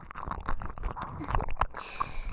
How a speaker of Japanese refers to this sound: 耳元の水音がずっと鳴り続けて興奮全然引いてくれないわね。